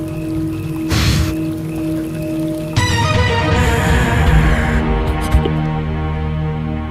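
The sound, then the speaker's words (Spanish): Water trickles and splashes steadily while crickets chirp in a continuous high buzz; the sound swells briefly early on, then grows busier and denser for the remaining seconds, with no voices. “Hay grillos, tienes razón. Hay grillos, ¿no? ¿Serían grillos? Agua más grillos.”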